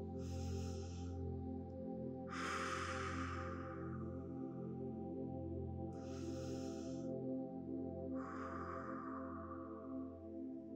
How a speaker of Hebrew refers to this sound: אז בואו נתחיל. עצמו את העיניים וקחו כמה נשימות מרגיעות ועמוקות.